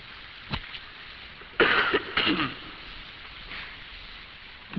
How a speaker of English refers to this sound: You folk forgive me while I cough and sputter during my hay fever sieges here.